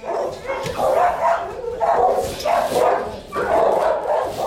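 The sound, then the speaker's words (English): Several dogs bark continuously and overlap in loud, echoing bursts about once a second at a dog shelter in New York City, with no one speaking. “In December, I went to a dog shelter run by Animal Care Centers of New York City.”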